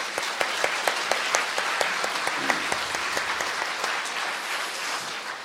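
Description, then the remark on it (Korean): A steady round of applause from a church audience for the oboe players who gave a special performance, many hands clapping in a dense, even patter with a few sharper claps standing out, holding strong for several seconds before easing slightly at the end. “우리 오보에 특주하신 분들께 먼저 박수 한번 드리고요.”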